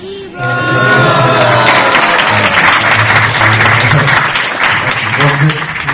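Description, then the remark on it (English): A crowd at a Tree of Life seminar bursts into steady applause for Donald Trump that holds strong for several seconds, with a voice carrying on over the clapping throughout. “Applaud for Donald Trump.”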